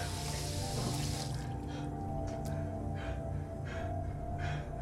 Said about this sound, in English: Moving to a sink, he turns on the faucet. He rinses his mouth.